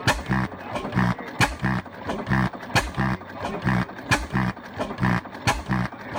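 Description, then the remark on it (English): A 1920 flywheel engine, rotating big flywheels of the kind used with a flat belt to drive a thresher, runs steadily, firing sharp exhaust pops about every two-thirds of a second over a low, honking, goose-like drone that pulses between beats, with no talking. “Yes, it sounds like a little goose, but that machine is rotating big flywheels and would have been used with a flat belt to hook up to a thresher.”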